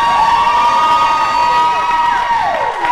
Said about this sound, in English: Folks, before I start, can I please get a little round of applause for Prop 8 getting overturned? Yeah!